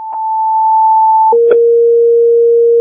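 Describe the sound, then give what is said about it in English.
A two-tone fire dispatch alert for a residential fire alarm call in Crystal Lake: a steady high tone holds for over a second, then drops to a lower tone. Brief crackly breaks interrupt it before the signal cuts off abruptly at the end. “My supervisors are aware of the tones cutting off.”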